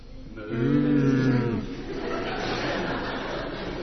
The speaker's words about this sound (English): so they stayed in the stable, which was a place where the animals stayed warm and dry. There was a cow there.